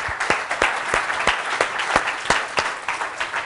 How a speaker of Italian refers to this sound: Facciamo un bel applauso.